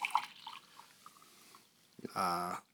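Coffee is poured into a cup: a few light drips and trickles first, then a short, steady pour whose hollow ringing tone rises as the cup fills. No one speaks.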